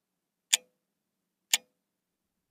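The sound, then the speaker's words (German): A metronome set to tempo 60 clicks three times at a steady one-per-second pace, like the second hand of a clock, each tick sharp, bright, clear and isolated against silence. “Stellt man also das Metronom auf Tempo 60, so schlägt es 60 Mal pro Minute und entspricht so dem Ticken des Sekundenzeigers einer Uhr.”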